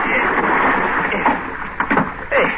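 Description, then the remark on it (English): Steady wash of water around a small fishing boat, with a few brief splashy bumps and scuffs near the end as someone is pulled up over the side onto the boat; no talking. “Give me a hand up, will you? Pull me on the boat.”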